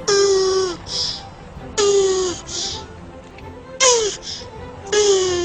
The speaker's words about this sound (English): Also, have a careful listen to this noise a tortoise makes when they're very happy.